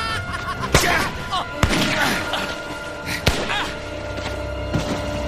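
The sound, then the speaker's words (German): Four sharp, loud gunshots crack out at irregular intervals through the night over a dense, murky background of rumbling noise and faint voices. “Die Schüsse peitschten durch die Nacht und der Körper des Mörders wurde nach vorne geschleudert.”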